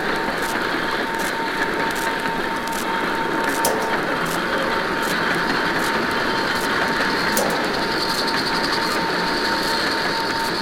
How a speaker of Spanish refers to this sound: Trenes desatados contra la noche. Furiosos en la oscuridad. Obscuridad. Como si quisieran treparse por los hilos telegráficos.